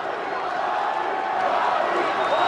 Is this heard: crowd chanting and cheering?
yes